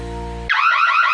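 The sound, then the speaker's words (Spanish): An electronic security alarm goes off loud: a steady buzzing tone cuts abruptly into a rapid, warbling high-pitched wail. No voices are present. “Todas las alarmas suenan igual, pero no protegen igual.”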